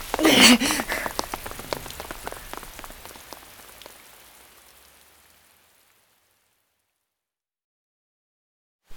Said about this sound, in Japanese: ああ、びちょびちょ。 すごい雨でしたね。